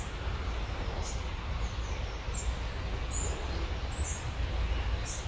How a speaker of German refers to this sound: Und du hörst dieses Vogelgezwitscher, all das, was drumherum ist. Und es ist wie eine Einladung, mit der Natur in Verbindung zu gehen, sie zu fühlen und wahrzunehmen.